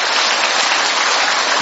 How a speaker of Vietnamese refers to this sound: Ai là người từ miền Bắc vào giơ tay. Đấy, lạy Chúa tôi. Rồi, xin một tràng pháo tay để chào mừng tất cả những anh chị em đó.